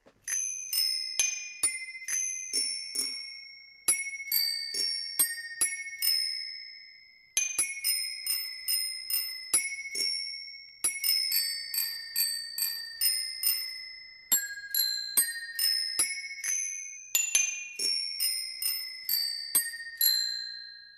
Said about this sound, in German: Das Fahrradklingelorchester steht bereit und spielt nochmal ein Lied und ja, ihr sollt wieder erkennen, was sie da spielen.